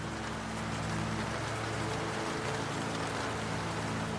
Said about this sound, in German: Die Elfen leben und der Regen bedeutet für sie Verbindung mit dem Wald, mit sich selbst und mit allem um sie herum. Solange der Regen fällt, sind sie eins mit dem Wald.